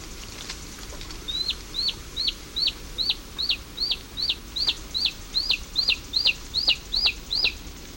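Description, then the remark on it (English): A short-toed snake eagle chick in its nest begs noisily for food, giving a steady run of about fifteen shrill, rising-and-falling squeals in quick succession, over faint background ambience. “Very soon, it becomes quite noisy as it demands food, so the male must constantly look for prey in order to feed the chick and the mother.”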